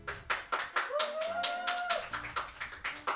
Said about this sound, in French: Et ben, je crois qu'on peut tous applaudir une dernière fois